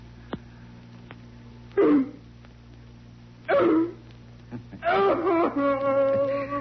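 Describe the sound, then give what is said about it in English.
A person, ordered to bark, imitates a dog, giving two loud, separated barks followed by a longer, drawn-out howling bark over a steady low background hum. “Louder. Louder, puppy dog.”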